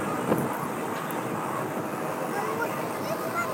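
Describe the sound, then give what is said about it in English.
Strong wind blows in a steady, continuous roar, a dense rushing hiss spread from low rumble to high tones, holding loud and even throughout with only slight swells. “Oh! Hey, all this wind. Why does it have to be so windy?”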